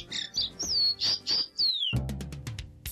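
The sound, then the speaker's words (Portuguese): A songbird sings clear, sliding whistled phrases, then breaks into a quick run of short repeated chirps over a low, steady hum. “O Alô Musical de hoje é uma homenagem à ave nacional do Brasil”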